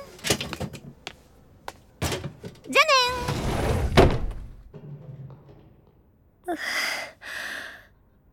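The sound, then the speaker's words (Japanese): A desk and chair are moved and carried off: several hollow thumps and knocks, then a longer scraping drag, followed by a short spoken word and two breathy exhalations. “ここの机と椅子持ってくね。”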